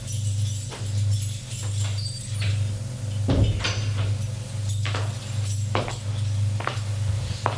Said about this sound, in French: Elle monte jusqu'au deuxième étage. Arrivée au deuxième étage, elle prend de son sac des clés pour ouvrir une porte.